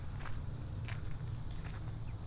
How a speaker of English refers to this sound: Wait, what was that? I heard something. Oh, it's just a bird. Somebody was hopping around down in there.